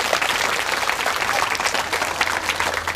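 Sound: audience applause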